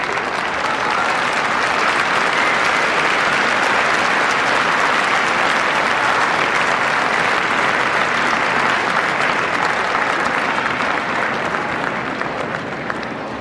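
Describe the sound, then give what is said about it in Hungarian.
A storm of applause from a large crowd for the Pope after his Latin blessing: dense, continuous clapping, loud and steady for the whole stretch with no voices standing out. “Kedves hallgatóink, a mai napon a tapsvihar mellett azért kihallatszott még egy hangkiáltás, Happy Birthday, ugye a Szentatyának az elmúlt napokban volt a születésnapja”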